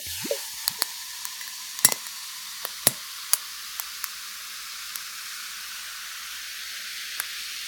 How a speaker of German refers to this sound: Das mache ich jetzt auch mal mein Tonic Water auf und gieße mir das jetzt in mein Glas mit den Eiswürfeln.